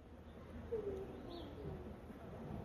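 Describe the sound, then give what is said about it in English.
A voice briefly imitates a dove's mournful coo, one short, soft, low hooting tone, followed by a faint tiny chirp against a quiet background. “We growl like bears and moan sadly like doves.”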